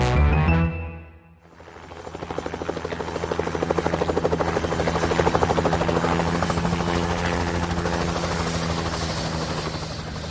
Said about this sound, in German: Der Hubschrauber landete um exakt 17 Uhr auf der Yacht meines Vaters, die vor den Gewässern Gran Canarias kreuzte.